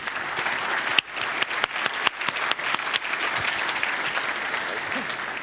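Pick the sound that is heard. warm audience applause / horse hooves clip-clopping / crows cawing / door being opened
warm audience applause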